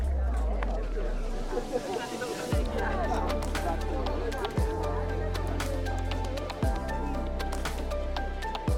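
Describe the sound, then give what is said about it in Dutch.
A busy crowd at an outdoor garden market in Hernen murmurs steadily, many overlapping voices blending into a continuous hubbub, with a low rumbling undertone and occasional thumps. “Wat ik nog niet zoveel gezien heb op de tuinmarkt zijn de zaden, maar hier ben ik toch bij een kraam die tomaten verkoopt en tomatenzaden.”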